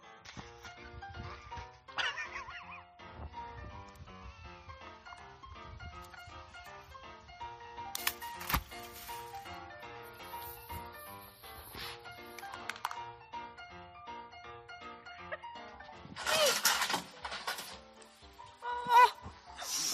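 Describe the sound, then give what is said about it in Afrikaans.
Fainting goats bleat repeatedly, wavering cries overlapping one another across the whole stretch, mixed with short bursts of scuffling and clattering movement. No one speaks. “Dit is verskriklik, ek wil so bok hê. Dit sal net amazing wees, dit sal gewoon baie entertaining wees, so hierdie fainting goats, en wat hulle eindelijk maar net doen, is hulle wys eindelijk vir ons net op een manier, prakties in hulle”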